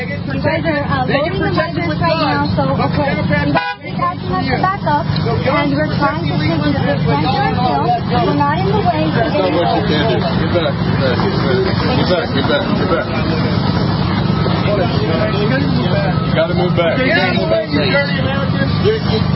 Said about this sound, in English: And now here come the trucks in to block the media.